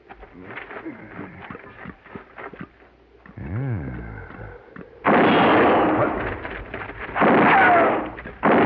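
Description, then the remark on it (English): Gunshots ring out as two loud, abrupt blasts, each trailing into a rough, noisy roar. Before them come quieter rustling, murmuring sounds and a brief warbling tone. “Answer me or I'll shoot again.”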